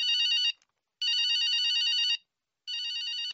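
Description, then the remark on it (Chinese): A telephone rings loudly in three bursts, the second longest, with short silent gaps between them. The trilling, buzzy electronic ring is clear, with no voices. “恋爱中的男女就像两个幸福的小孩子，本来想给对方打个电话，但碍于面子想对方先给自己打，就在思念焦灼犹豫不决的时候，电话铃声突然响起来。”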